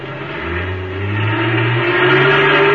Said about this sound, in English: We still had about 100 yards to go when the truck roared up and started pulling itself loose from the wrecked car.